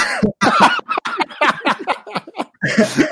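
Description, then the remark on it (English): A fit of sputtering coughs after tea went down the wrong way, fairly loud, about a dozen short choppy bursts in quick succession with brief gaps, ending in a harsher, longer spasm. “Oh, sorry, that made me cough because you believe they were minstrels.”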